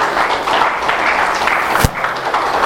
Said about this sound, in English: Give him another hand of applause.